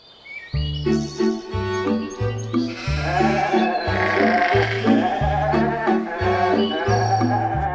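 Several goats bleat in quick succession, their loud, wavering calls overlapping, continuing steadily for several seconds with no talking.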